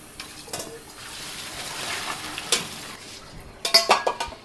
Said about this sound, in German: Jetzt sind die Spaghetti in der Pfanne und werden vermischt mit der herrlichen Soße.